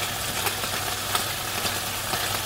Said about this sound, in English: So now they're going to play the white noise of the chicken frying